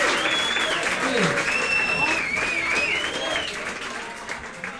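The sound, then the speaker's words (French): A large stadium crowd roars and applauds wildly after Bianca Andreescu wins the final. Dense clapping and cheering fill the space continuously, with whistles and shouted voices rising above the sustained, loud ovation. “Voilà, la foule est en délire, vous venez de l'entendre.”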